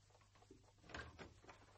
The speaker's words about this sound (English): Oh, you've unlocked the door.